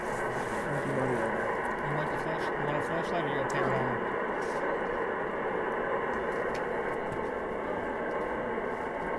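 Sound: white noise static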